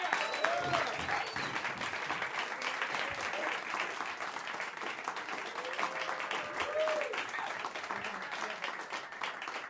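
Sustained audience applause welcoming a performer to the stage in Chicago, a dense steady wash of many hands clapping at an even loudness for about ten seconds, with faint cheers and whoops rising briefly through it.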